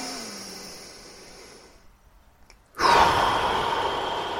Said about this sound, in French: Voilà, ça c'est une respiration profonde et consciente le matin et à chaque fois que le stress pointe le bout de son nez.